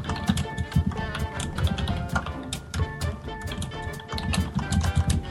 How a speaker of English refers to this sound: typing over there. Freaking 1970s IBM keyboard. I want one.